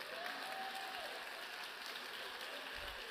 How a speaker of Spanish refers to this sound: Nada más están aplaudiendo dos gente porque tienen los hermanos al lado.